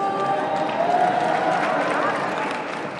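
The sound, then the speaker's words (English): A steady wash of crowd noise resembling applause, dense and continuous throughout, with faint indistinct voices mixed in and no clear individual claps standing out. “We just heard some applause in the background.”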